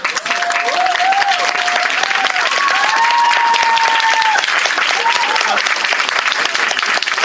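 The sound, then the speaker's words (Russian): A crowd in a hall claps steadily in loud, dense applause for staff members celebrating their birthdays before a lecture, holding for several seconds, with a few raised voices calling out and cheering over the clapping. “А сейчас просто мои аплодисменты вам.”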